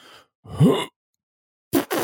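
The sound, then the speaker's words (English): Someone mimics a fart with their voice: a short breathy burst, then a longer blurt that rises in pitch, and after a pause two quick, loud raspberry-like blasts. “This is a funny fart sound.”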